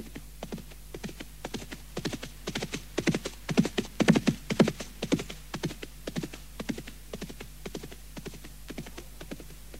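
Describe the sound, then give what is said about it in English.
The hooves of a black horse carrying two riders clip-clop in a steady, quick rhythm, growing louder toward the middle and then easing off slightly as it rides away into the forest at night under the moon. No voices are heard. “Trojan put his mouth to the horse's ear, and they rode away into the forest.”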